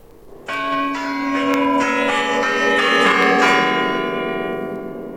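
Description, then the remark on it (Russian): Church bells ring a quarter-hour chime, striking every 15 minutes, several resonant strikes overlapping in a rich, sustained peal that swells and slowly decays, loud with no voices. “Какой удивительный звон. Торжественный. Они бьют каждые четверть часа, каждые 15 минут.”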